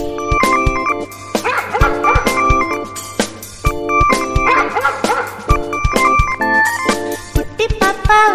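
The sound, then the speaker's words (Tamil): A white puppy barks and yips in short, repeated bursts over a bouncy, steady musical backing, the high-pitched barks fairly loud throughout. “எங்கள் வீட்டு நாய்க்குட்டி, நன்றி உள்ள நாய்க்குட்டி, வெள்ளை நீர நாய்க்குட்டி, துள்ளி ஓடும் நாய்க்குட்டி.”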